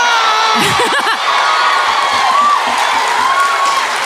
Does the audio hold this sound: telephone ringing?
no